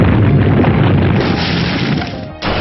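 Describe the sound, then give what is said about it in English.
A video game earthquake attack effect as Leonidor uses the Earth move Quake on Foe Erwar: a loud, continuous rumbling roar with heavy low-end crunch, briefly dipping near the end before surging back. No voices. “Leonidor used Quake.”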